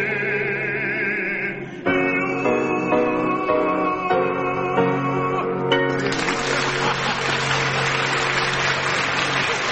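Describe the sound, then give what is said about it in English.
Sustained sung notes and music draw to a close, then a crowd bursts into loud, steady applause that carries on as a dense wash of clapping for the last few seconds. “How right you are to applaud yourselves.”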